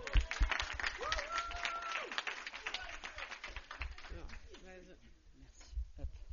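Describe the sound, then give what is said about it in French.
An audience claps steadily, a dense crackle of many hands that lasts the whole six seconds, with scattered voices and cheering calls rising over the applause. “Et on l'applaudit.”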